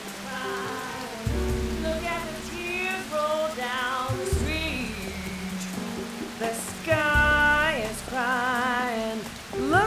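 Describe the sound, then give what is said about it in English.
Steady rain patters continuously in the background at the Big Boo-Hoos, partly buried beneath louder melodic tones and voice-like harmonics that come and go over it. “It never stops raining.”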